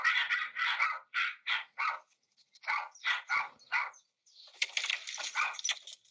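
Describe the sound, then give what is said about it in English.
Dogs bark in quick, repeated bursts, a dozen or so sharp yaps in a steady rhythm, ending in a denser, overlapping flurry of barking. The sound is fairly quiet and no one speaks. “That's the dogs.”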